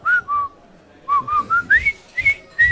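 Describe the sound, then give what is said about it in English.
A person whistles the Colonel Bogey march melody: a run of clear, short notes in a bouncing rhythm, with brief pauses between phrases and no talking. “Whistle Colonel Bogey to yourself.”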